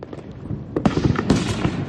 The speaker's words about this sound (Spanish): Hablamos de los petardos, cómo no. Son conocidas ya las llamadas a la seguridad y la necesidad de pensar en quien no lo pasa tan bien con tanto ruido.